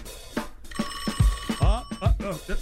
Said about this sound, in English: And what we've done is, you could tell by the ringtones if it's a good offer or a bad offer coming in, and we'll see. So the phone is, look, it's starting to buzz now. Is it ringing?